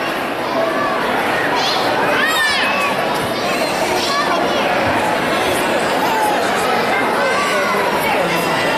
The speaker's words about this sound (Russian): Вот тут дети играют такие аттракциончики.